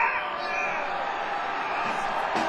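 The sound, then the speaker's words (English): A crowd cheers and shouts in a dense, steady roar of many voices that holds at an even, fairly loud level for a couple of seconds, with scattered whoops rising above it. “I like the people cheer for that.”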